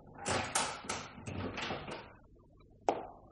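A laboratory door swings shut with a cluster of heavy wooden knocks and rattles, then after a short pause a single sharp metallic click as the lock is turned with a key, fairly loud.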